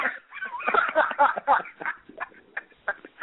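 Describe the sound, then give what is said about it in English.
A talk show host's dog yaps and yelps in a rapid, jumbled flurry of short, high-pitched barks that thins into a few spaced-out yips, all with a thin, tinny quality. “your dog just tweeted”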